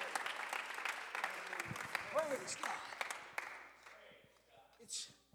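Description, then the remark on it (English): An audience at a bilingual English and Spanish church service claps hands when asked to, in a dense, steady burst of applause with a voice briefly calling out over it, then the clapping thins and fades out toward the end. “Clap your hands all over this place.”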